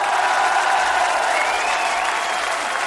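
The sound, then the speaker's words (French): An audience applauds steadily for a singer being introduced, a dense wash of clapping hands that stays loud and even throughout, with faint crowd murmur and a cheer or two mixed in. “je vous demande d'applaudir donc le père éternel et le vrai cette fois”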